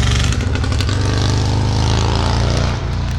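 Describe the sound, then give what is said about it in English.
A Honda motorcycle with saddlebags drives past on Fort Street, its engine a loud, steady, buzzing drone that holds strong for several seconds before dipping slightly as it moves on. No talking. “Yeah, so cool motorcycle guy drives by on Fort Street.”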